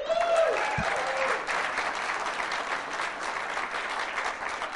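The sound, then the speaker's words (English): An audience breaks into sustained applause to show its view of Thursday night NFL games, a dense wash of clapping that holds steady for several seconds, with a brief tonal whistle or cheer rising at the very start. “A lot of criticism about that kind of a program by applause.”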